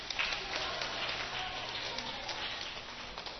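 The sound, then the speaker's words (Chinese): Children in a class give steady, dense applause to ten children returning to their seats, many hands clapping at once in a continuous crackling patter of moderate loudness that holds evenly for a few seconds with no voices over it. “好，小朋友请回座，小朋友给他们掌声鼓励，谢谢。”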